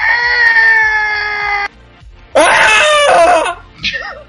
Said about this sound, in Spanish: Un minuto, tienes que gritar durante un minuto. No, no, pero un grito de verdad.